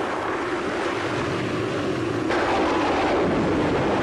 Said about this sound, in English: Those waves are closing in! This is not good!